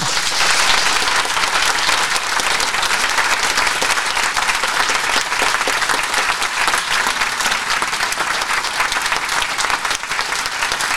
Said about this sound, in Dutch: Een mooi lang applaus.